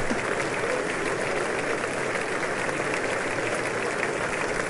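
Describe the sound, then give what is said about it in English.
A full-house audience at a joint meeting applauds and cheers steadily, a dense, continuous wash of clapping for several seconds with no break and no one speaking over it. “It's a full house, joint meeting. Cheering, cheering, cheering.”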